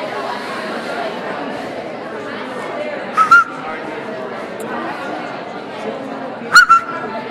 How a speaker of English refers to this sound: Did I forget to tell you what that whistle meant?